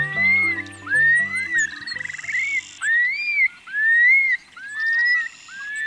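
Long-billed curlew bubbling song, given by a male during its spring flight display over grasslands of the Great Basin and Great Plains: loud, rising whistled slurs repeated in a steady series, broken by a quick rippling trill, with low croaking sounds underneath at the start.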